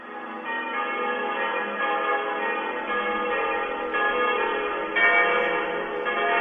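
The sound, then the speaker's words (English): Many church bells from churches around the city of Salzburg, Austria, peal together in a dense, continuous wash of overlapping clangs, ringing steadily with no voices present. “Well, 5 minutes ago, the bells started ringing around the city of Salzburg in Austria.”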